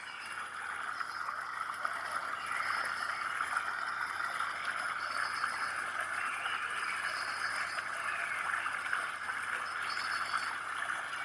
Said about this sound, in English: A beautiful rushing stream, glistening in the sunlight.